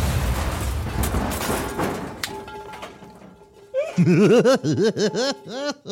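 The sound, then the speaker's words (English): A squeaky dog toy is squeezed as a live practical sound effect in a quick run of about eight loud, high-pitched squeaks, each rising and falling. A burst of rustling noise comes before them. “That's from a dog toy.”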